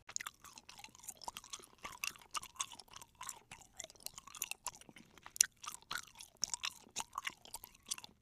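Steady chewing of soft, sticky Turkish delight sprinkled with icing sugar and dried rose petals, with wet mouth clicks and smacks repeating about twice a second for several seconds, no talking.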